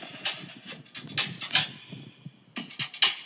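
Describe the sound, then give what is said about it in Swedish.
A short snippet of a song plays back tinny and thin from a phone speaker, held a little away from the mic, with a short break in the music near the end and no one talking over it. “Okej, okay, nu spelar vi upp en liten trudelutt på den här låten.”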